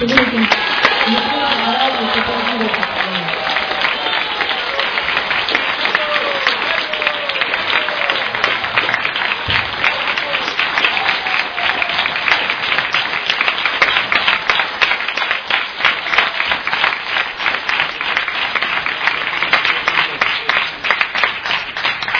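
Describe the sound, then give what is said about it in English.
An audience applauds Maharaj, who is to give a talk on the importance of initiation, steadily for over twenty seconds, a dense, even wash of clapping that stays fairly loud throughout, with a few voices calling out near the beginning. “Big round of applause.”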